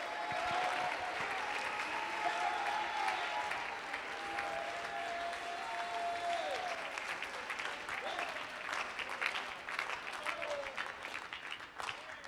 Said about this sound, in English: Come on, that's it. Somebody make noise. Somebody cry out to God. Clap your hands, all ye people. Shout to God with a voice of triumph.